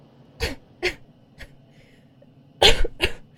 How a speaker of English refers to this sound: Remember to cough periodically. If people think you're sick, we'll have more room to be comfortable.